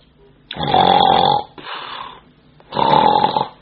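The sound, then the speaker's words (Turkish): A person imitates snoring with their voice: two loud, rasping snorts separated by a softer breathy exhale, clear, with no talking. “Ama bu horlama burası duymuyor.”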